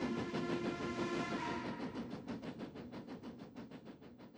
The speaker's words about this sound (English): So my first thought was, I'll just revisit that, the sound of the train, the train whistles